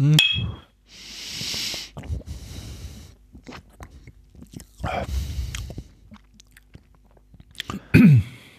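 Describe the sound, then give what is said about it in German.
Sipping and slurping from a glass of a freshly opened, fizzy drink whose foam bubbled over, with a soft hiss of bubbles, a few wet gulps and swallows, and quiet breaths between sips. “So, dann mal Prost. Dann sag ich mal Prost.”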